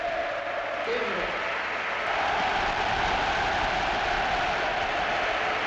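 A large stadium crowd at a Barcelona football match applauds and cheers as Guardiola takes Pedro off and sends Iniesta on, a dense, continuous roar swelling louder partway through into a sustained ovation, with no distinct individual voices standing out.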